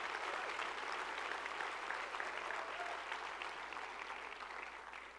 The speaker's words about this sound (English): And also, I want to give a special shout out to our band. So if y'all could give a round of applause for our band for all the hard work they put in.